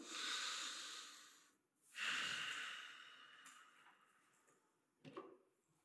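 A slow, deep breath is drawn in at one's own pace and then let out in a long, airy exhale, followed by a short softer breath near the end; no one speaks.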